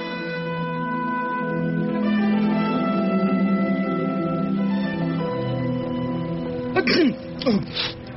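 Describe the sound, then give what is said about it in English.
A steady humming, tonal background gives way near the end to two or three short, harsh coughs in quick succession, rough and throaty. “This blasted cough.”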